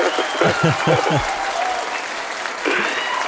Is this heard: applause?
yes